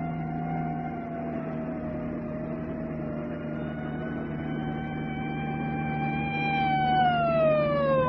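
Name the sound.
police car siren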